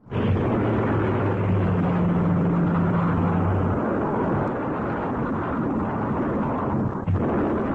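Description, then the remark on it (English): A loud, steady roar of droning Japanese aircraft engines with a low humming tone, mixed with continuous rumbling blasts of bombs exploding as the planes bomb the American naval base at Pearl Harbor, Hawaii, on December 7, 1941; no voices, just sustained chaotic noise throughout. “Japanese planes bombed the American naval base at Pearl Harbor, Hawaii on December 7, 1941.”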